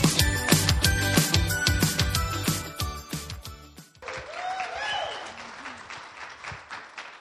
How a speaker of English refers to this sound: I tell you what, it always feels good to hear people clap for you.